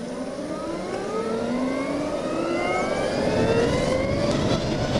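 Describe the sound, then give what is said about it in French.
A Harley-Davidson LiveWire electric motorcycle, which has no clutch or gears, accelerates with a high, smooth whine that climbs steadily in pitch over a constant rush of wind noise, staying fairly loud throughout, with no talking. “La Livewire, c'est la nouvelle Harley Davidson électrique. On l'entend pas forcément, mais les accélérations sont incroyables.”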